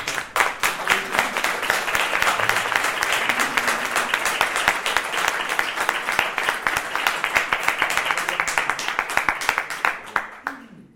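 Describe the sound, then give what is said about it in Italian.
An audience at a Mercury Comics event applauds steadily for about ten seconds as everyone is welcomed, a dense crackle of many hands clapping at an even loudness before it thins out and stops at the end. “Un applauso.”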